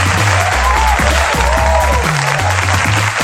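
A crowd claps and cheers for a performer in a steady, loud wash of noise, with rising whistle-like calls, while a deep bass line shifts pitch underneath.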